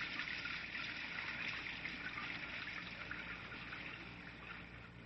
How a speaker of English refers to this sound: Caleb, my young gullible friend, it's a summer rain. Are you afraid to get wet?